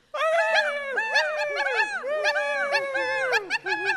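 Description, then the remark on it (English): A person imitates a mean, snarling dog as loud as they can, letting out a rapid, continuous stream of harsh barks and yaps for several seconds. “bark like a dog. A mean dog. As loud as you can.”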